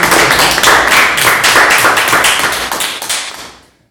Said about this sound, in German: Und ich glaube, auch von der kleinen Runde haben wir da einen großen Applaus verdient. Gell?